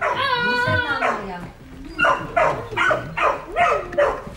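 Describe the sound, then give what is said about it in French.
A dog gives a drawn-out whine, then breaks into a quick run of about five short, sharp barks in a steady rhythm, fairly loud. “Il est pénible, il la boit, le chien.”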